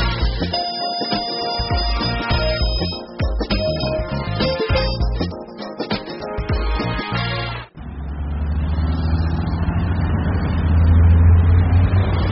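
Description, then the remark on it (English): Upbeat music plays for several seconds, then cuts to the deep, steady rumble of the six o'clock bus engine pulling away, loud with a low droning growl that swells toward the end. “There is the bus. We aren't going to make it.”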